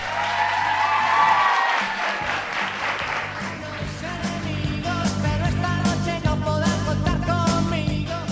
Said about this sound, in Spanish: Que se escuchen fuertes esos aplausos, por favor.